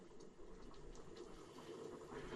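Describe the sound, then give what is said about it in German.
Water bubbles and simmers steadily in a hot dog machine, a continuous low rumble with fine crackling bubbles throughout, fairly quiet, with no one speaking. “So, man hört auch bereits das Wasser kochen in der Hotdog-Maschine.”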